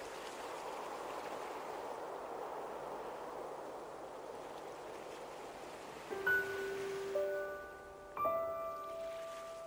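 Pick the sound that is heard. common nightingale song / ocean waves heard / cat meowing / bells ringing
ocean waves heard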